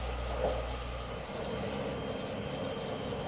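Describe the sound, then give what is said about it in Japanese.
Steady interior noise of a moving JR West train bound for its terminus at Echigo-Yuzawa: a deep continuous rumble with a broad airy hiss on top, unchanging throughout and with no voices. “この列車では終点の越後湯沢までワゴンによる車内販売の営業をしております。”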